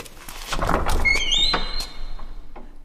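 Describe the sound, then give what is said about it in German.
A cellar door is opened: a dull thunk and rattle, then a long, high, squealing hinge creak that rises and fades, with no voices. “Sieh mal, das hier ist die Tür zum Keller.”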